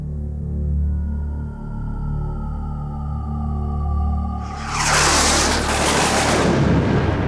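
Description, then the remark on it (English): A distorted shortwave radio signal received in SSB mode hums and warbles with steady tones, then erupts into a loud, harsh burst of crackling bangs and static that persists to the end. “Media Network, putting the bang into World Bang Radio. At least that's what it sounds like in SSB.”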